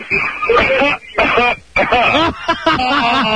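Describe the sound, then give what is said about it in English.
Several rough coughs come through a phone line in quick bursts, thin and slightly muffled, mixed with throaty vocal sounds, each cough separated by short pauses. “If she's a 1, cough 3 times.”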